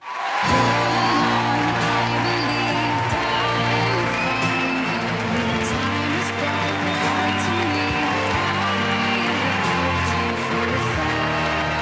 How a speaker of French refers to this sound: Et puis dans Incroyable Talent sur M6, on applaudit une performance de danse à deux.